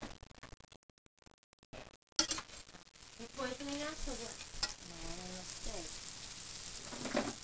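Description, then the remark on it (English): Pancakes fry in a pan with a steady, hissing sizzle that starts abruptly after a couple of quiet seconds, while people talk over it. “I made the wrong shape of the pancakes.”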